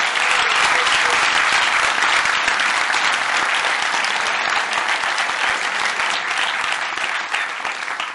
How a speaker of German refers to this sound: Ja, gebt mir doch noch einen so richtigen Applaus.